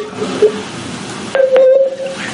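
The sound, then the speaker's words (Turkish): Electronic tones from a mobile phone dialing to connect a call play alone: a short beep near the start, then a steady, louder tone with a couple of quick key-press blips over a faint background hum. “Ben cep telefonundan da bir bağlanmayı deneyeceğim bir yandan.”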